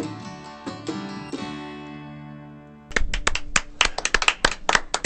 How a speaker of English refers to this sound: A smattering of applause, and only because there's about, only about three of us here in the room. Thanks for that.